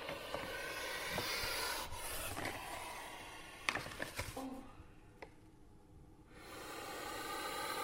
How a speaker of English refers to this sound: is about to put my microphone at the end of a pole so that we can hear the distinctive puff of a puff adder. I'm just going to open the cage. The snake just bit the microphone.